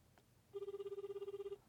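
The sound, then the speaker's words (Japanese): A telephone ringback tone heard on an outgoing call that goes unanswered: one steady, buzzy burst lasting about a second with a rapid warbling flutter, fairly loud and clear, with no talking over it. “えどうするんですか、 なんで電話すんの、 出ないね。”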